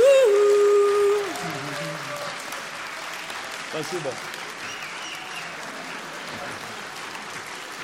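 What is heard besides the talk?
audience clapping in rhythm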